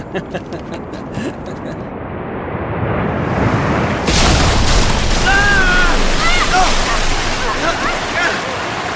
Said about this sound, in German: Verdammt! Irgendwas hat die Schiffswand durchschlagen! Kanonenfeuer!